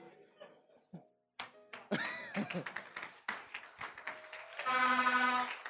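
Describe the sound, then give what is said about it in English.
Scattered handclaps from a crowd, building into a brief burst of applause before thinning out, with a sustained voice or cheer rising near the end. “If you don't clap, you're a suspect.”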